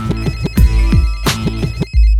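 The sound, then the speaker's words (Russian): A telephone rings with a loud electronic ringtone, a quick rhythmic run of repeated chirpy tones cycling over about two seconds, with no voices. “Слышь, еще раз ты позвонишь, я тебе как набью. У меня телефон определил, я их все найду.”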